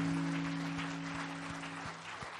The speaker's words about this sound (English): Give Lord a good clap offering. Would you do that? Come on.